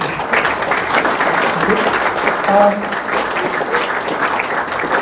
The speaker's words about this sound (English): So, round of applause, please.